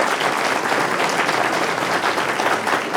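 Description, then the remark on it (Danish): An audience applauds steadily, a dense, even wash of many hands clapping at once, sustained at a constant loudness for the whole stretch with no voices standing out. “Må jeg høre en applaus for det?”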